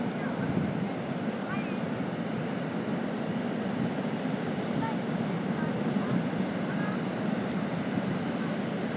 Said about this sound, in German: Also wenn ihr ein lautes Rauschen hört, ein lautes, fast konstantes Rauschen, dann ist das der Atlantik. Nee, die Ostsee. Sehr hohe Wellen.